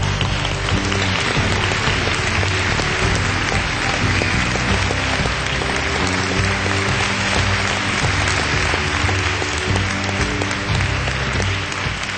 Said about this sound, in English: So please, ladies and gentlemen, will you help us give them a very, very warm round of applause?